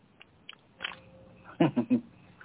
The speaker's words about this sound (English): I have my crunching water bottle.